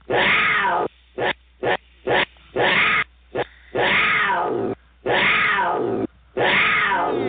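A cougar roars and snarls, loud and raspy, in a string of about eight bursts of uneven length separated by short silences, with no talking.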